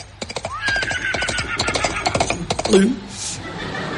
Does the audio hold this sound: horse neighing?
yes